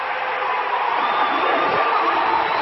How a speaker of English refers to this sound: Now, if you want to know what that sounds like, it's kind of like this. As a crowd cheering,